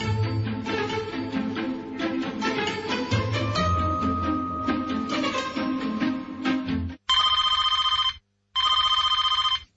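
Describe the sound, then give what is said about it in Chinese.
A telephone rings loudly, two bright trilling bursts of about a second each near the end, following several seconds of busy background music. “个电话搵我㗎。”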